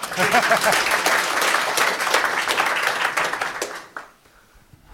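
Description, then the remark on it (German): A quiz-show audience applauds after a correct answer with dense, continuous clapping for about four seconds, with a few voices mixed in, before it abruptly drops away into near silence. “Ja, Applaus!”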